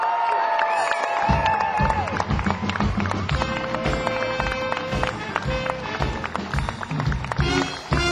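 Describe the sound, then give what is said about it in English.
An audience welcomes a performer to the stage: a loud, dense crowd roar of cheering and shouting runs throughout, with a high whistle sliding across the first two seconds and scattered clapping mixed into the steady noise. “Will you please shout, scream, and whistle and make him feel very welcome?”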